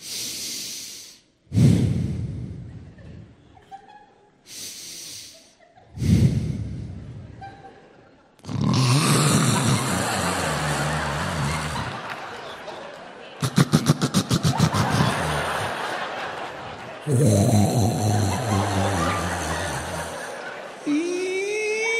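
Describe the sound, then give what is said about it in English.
A voice imitates a wife's loud snoring: a few separate rasping inhales and snorts, then long, harsh, rattling snores stretching several seconds each, forceful, with no words spoken. “And I love her to death, but this woman can throw down some snoring.”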